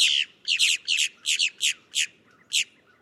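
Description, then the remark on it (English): A boat-tailed grackle gives a series of about eight harsh, raspy calls, some doubled, in an uneven rhythm, loud and high-pitched over a faint low background hum, with no talking. “But other grackles are pickier about their habitat, like the boat-tailed grackle, found in tidal zones along the Gulf and Atlantic coasts of the U.S.”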